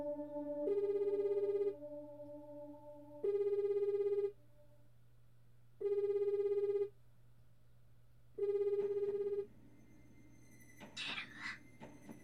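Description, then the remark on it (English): A phone line rings on an outgoing call to a woman, four long, even tones about a second each with pauses between, followed by a brief muffled voice-like rustle as the call connects. “And then I press the icon to call her.”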